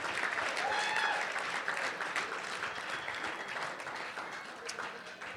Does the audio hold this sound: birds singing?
no